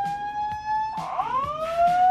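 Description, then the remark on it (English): A siren alert sound effect plays alone as a basketball bracket alert: a steady electronic tone, then a sweeping wail that rises and settles into a high, sustained pitch with a bright, buzzy edge. “Bracket alert, bracket alert.”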